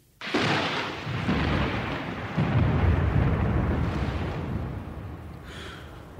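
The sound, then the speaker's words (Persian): Heavy rain pours steadily while deep rolls of thunder rumble through it, swelling a few times before easing. The storm sounds loud, and no voices are heard. “باران می آید و ما تا فرصت سلامی دیگر خانه نشین می شویم.”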